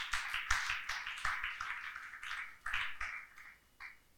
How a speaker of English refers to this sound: Hallelujah. Clap for him.